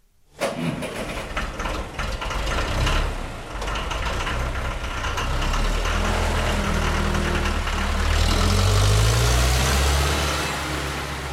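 A large tractor engine kicks on and runs loudly, a deep steady rumble with clattering overtones that revs higher toward the end. No one speaks.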